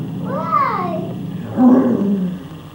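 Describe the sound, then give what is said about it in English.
A child's voice imitates a lion's roar in two drawn-out, growling bursts, the first rising and falling in pitch, the second lower and louder, with no other talk. “¿Es un león?”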